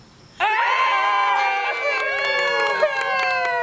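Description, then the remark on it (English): After a brief quiet moment, a group of guests at a gender reveal party suddenly erupts into loud, sustained cheering, with high-pitched screams and excited whoops blending together for several seconds. “This video may sound like it's from any old gender reveal party, but it's from one that's a little different.”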